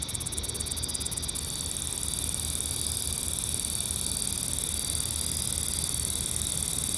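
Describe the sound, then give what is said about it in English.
A cicada sitting right on top of a microphone, recorded in August 2011, calls with a loud, harsh high-pitched buzz that starts with rapid pulsing and then settles into a steady, unbroken drone for several seconds. “Speaking of things being really close to microphones, here's a recording from August of 2011 where there was a cicada sitting right on top of one of my mics.”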